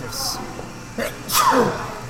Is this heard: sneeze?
yes